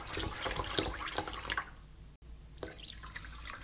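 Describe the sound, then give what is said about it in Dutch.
Two glasses of orange juice are poured into a bowl of soaking food, a splashing, trickling pour for about a second and a half, then settling into a few quieter drips and small splashes. “Nu nog 2 glazen sinaasappelsap erbij weken.”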